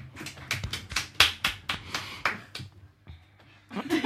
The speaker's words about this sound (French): On est deux à applaudir.